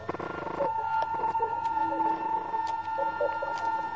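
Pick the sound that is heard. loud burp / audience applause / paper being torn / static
static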